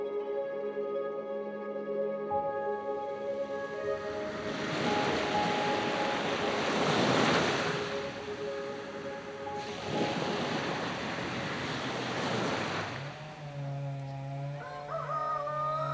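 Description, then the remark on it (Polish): A steady motor drone, like a motorboat engine, runs throughout, broken by two long, loud bursts of rough noise as the saw bites into wood, then the engine pitch shifts near the end. “A to jest piła do cięcia drewna. To tak jakby motorówka po morzu jechała.”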